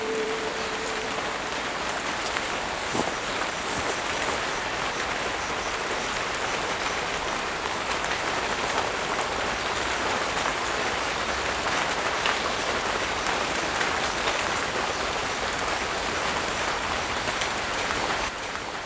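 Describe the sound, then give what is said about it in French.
A steady, dense hiss of water spraying down like rain as a greenhouse is watered, constant for the whole stretch, with fine droplets pattering on surfaces and no voices. “En fait, dans ta serre, tu recrées les conditions de la pluie, quoi.”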